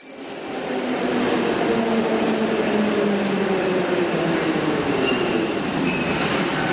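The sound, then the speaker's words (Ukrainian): A steady, enveloping roar of metro trains arriving in sync from both directions, heard from the passage between the two platforms deep underground at Arsenalna metro station, with rhythmic wheel hum, rushing wind and faint squealing tones over dense rushing noise, loud throughout. “І дочекайтеся моменту, коли потяги синхронізуються з двох сторін, і вас поглине той ритм коліс і потоків вітру.”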